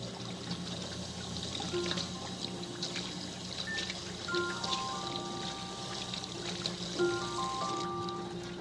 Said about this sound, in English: There's a drain in the kitchen sink here. And I'll just take the cork out. And there it goes. Into the sink.